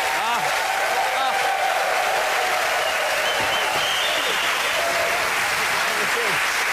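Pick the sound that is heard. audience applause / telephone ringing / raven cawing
audience applause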